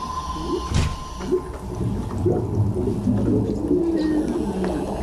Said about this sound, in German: Die Unterwasseratmosphäre setzt sich unter anderem aus Blubbergeräuschen, Delfinklicklauten und Walgesängen zusammen. Nur, echte Walgesänge sind ein seltenes Gut und nicht gerade einfach aufzunehmen.